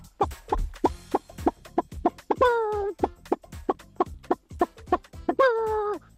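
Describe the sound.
A man imitates a rooster, recorded at his workplace, giving a run of short, rhythmic clucks broken by two brief, rising crows, fairly loud, with no other talking.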